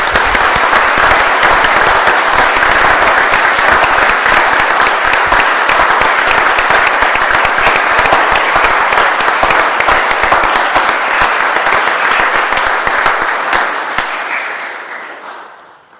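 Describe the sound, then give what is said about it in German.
A church audience claps loudly and steadily to welcome the organist, a dense, crackling wall of applause that holds strong for about fourteen seconds before fading out. No voices are heard. “Bitte ich einfach zur Begrüßung jetzt nochmal kräftig zu klatschen”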